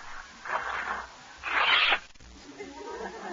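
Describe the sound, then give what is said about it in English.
Paper being pulled off a package, a birthday present from Eddie Cantor, in two rustling bursts, the second louder and longer, followed by softer crinkling and faint voices. “More paper.”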